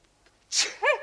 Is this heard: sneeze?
yes